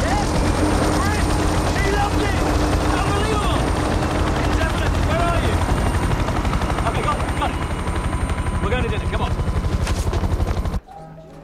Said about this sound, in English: He grabs his mobile as the helicopter lifts off.